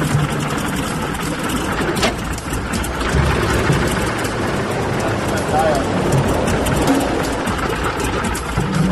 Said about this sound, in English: Like a bag of shit, really. You know, it coughed, it hiccuped, it blew smoke. It wasn't a happy engine.